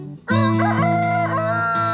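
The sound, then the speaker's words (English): A rooster crows loudly, one long sustained cock-a-doodle-doo starting abruptly after a brief quiet moment and carrying on strongly to the end. “The only time they crow is early in the morning at daybreak.”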